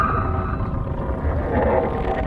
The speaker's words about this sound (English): The submarine thuds against something. You hear scraping.